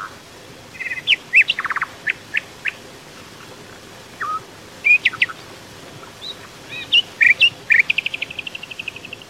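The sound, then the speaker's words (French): A caged nightingale sings a varied run of clear whistles, sharp chirps and rapid trills, ending in a fast repeated phrase, heard alone over a steady hiss of old, crackly recording noise; recorded in 1913 by Karl Reich of Bremen, Germany. “Ainsi, un autre Allemand, de Brême cette fois-ci, Karl Reich, qui capte ce chant de rossignol, nous sommes en 1913.”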